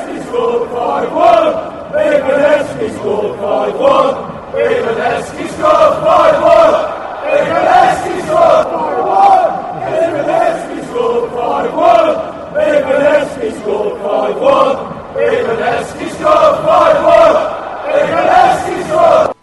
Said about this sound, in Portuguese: E a música que a gente acaba de ouvir a torcida cantar explica, fala assim, 5-1 quando o Heskey marca.